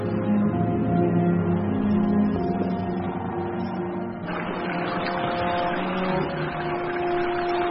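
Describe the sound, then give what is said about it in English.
A rescue team's boat engine drones steadily with a low, humming tone, and a broader rushing wash of water churned from the bow swells in around the midpoint and continues under the motor as they try to dislodge a sperm whale with waves. No one speaks. “So a rescue team tries to dislodge him with waves from the bow of their boat.”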